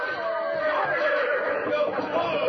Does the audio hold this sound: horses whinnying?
yes